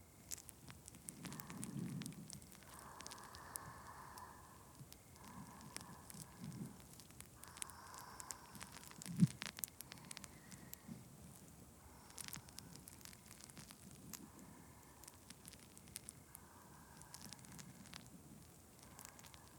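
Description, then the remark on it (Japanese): Soft crackling and fizzing close to the ears fills the whole stretch, a dense spray of tiny pops and hissing bubbles with a few sharper snaps, steady and intimate with no voices. “パチパチシュワシュワに身を任せて。”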